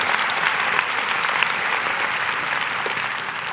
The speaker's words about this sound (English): Look at this crowd on the first day. Isn't this awesome? Yeah. Give yourself a good hand. You deserve it.